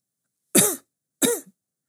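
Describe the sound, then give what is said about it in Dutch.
Two short, modest coughs, evenly spaced about half a second apart, each a brief throaty burst at moderate loudness against otherwise complete silence, in a meadow on a hard-freezing moonlit night. “Opeens klinkt er een bescheiden kuchje.”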